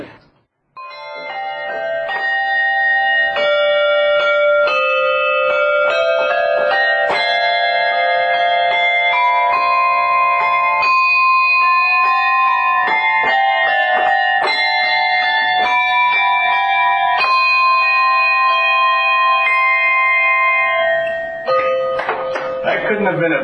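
Hand bells played by a 96-year-old woman ring out a steady melody, one bright, sustained note after another, with overlapping tones that blend together for about twenty seconds before fading at the end.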